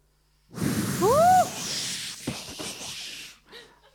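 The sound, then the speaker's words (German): Several voices imitate a strong rushing wind: about three seconds of loud, breathy whooshing hiss with a brief rising and falling whistle early on, then a fade and one short final puff. “Also das war so ein Brausen, wie eines starken Windes.”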